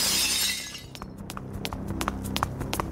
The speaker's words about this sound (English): That's when I heard glass breaking.